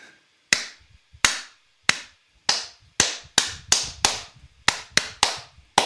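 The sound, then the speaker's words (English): A series of sharp hand claps, about a dozen, spaced slowly at first and then coming faster in an uneven rhythm, each one crisp and ringing briefly. No voices are heard. “Was that an 8? That's an 8 clap?”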